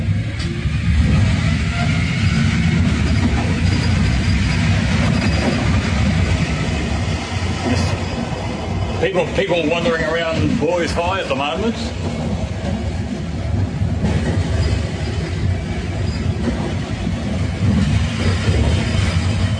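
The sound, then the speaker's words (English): Steady low engine rumble and road noise from inside a moving city bus on the university-to-town route early in the morning, travelling on Peach Grove Road, constant throughout, with a person briefly talking to the bus driver partway through over the drone. “This is me on the university to town bus early this morning.”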